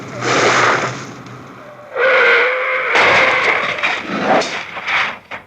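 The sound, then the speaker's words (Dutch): A car crashing into a tree in a Bassie & Adriaan scene: a loud, noisy burst of impact and rattling clatter, with a brief whistling tone in the middle, then more crunching bangs that trail off. “Trammels, Pingpong, wat doet die boom in die auto?”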